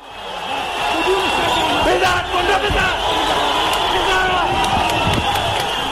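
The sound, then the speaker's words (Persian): A loud, dense crowd of spectators at a sports ground in Kabul, Afghanistan, roars and cheers continuously for their favoured athletes on the night of 12 February 2021, many voices blending into a sustained wash of shouting with occasional sharper yells and bangs rising above it. “شور و شادی تماشاچان در میدان ورزشی در کابل پایتخت افغانستان.”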